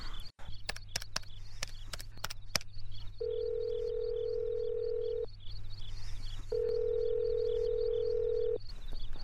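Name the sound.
telephone dial tone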